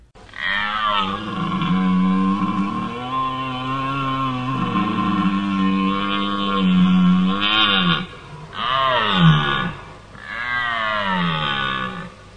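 A male red deer stag bellows loudly during the rut: one long, drawn-out groaning roar followed by two shorter, rising-and-falling bellows, with no other sounds around them.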